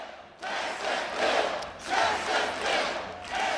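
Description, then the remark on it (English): A large crowd chants "Pass this bill" in unison as President Obama campaigns for his bill, loud and steady, with the massed voices swelling and dipping in a regular rhythm roughly once a second. “He has whipped up crowds all across America chanting, "Pass this bill."”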